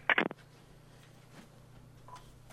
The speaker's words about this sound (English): Good morning. You're next on Open Line. And a dial tone.